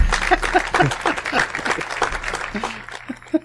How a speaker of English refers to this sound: I feel like that's where the applause goes right there.